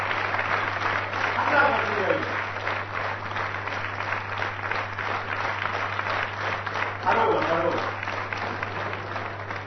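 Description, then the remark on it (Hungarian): An audience applauds steadily for the whole stretch, a dense even patter of many hands, with a low constant hum underneath and a couple of brief voices surfacing through the clapping. “Ha már ilyen kis finom tapsödve először a történetünkben”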